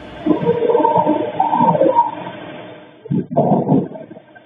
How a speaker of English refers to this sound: the security camera on that neighboring house picked up sounds, including what police described in charging papers as distorted audio of what sounded like voices or a whimper, followed by a loud thud. Here are those sounds.